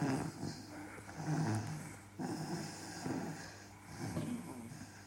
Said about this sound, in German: Normalerweise hatte seine Mom einen leichten Schlaf. Doch aus dem Zimmer seiner Eltern drangen sanfte Schnarchgeräusche.